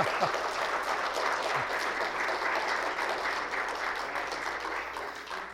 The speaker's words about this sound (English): I think they were clapping more for the age than they were for the birthday.